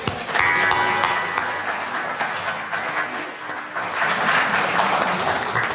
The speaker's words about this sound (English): Give yourselves a hand.